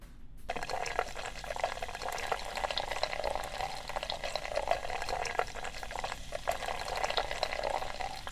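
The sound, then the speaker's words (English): Beer is poured gently into a really big pint glass, a continuous gurgle and splash of liquid with fizzing froth, starting abruptly and running without pause for several seconds; the pint comes out too foamy. “Let me try a little pour now while we're waiting for other people.”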